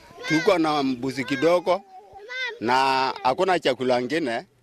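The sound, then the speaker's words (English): A goat bleats loudly as a child suckles from it in the Turkana region: a series of wavering, nasal cries in quick bursts, pausing briefly before another long, quavering run of bleats. “points at his child, who is busy suckling from a goat, his lower lip pierced as per custom.”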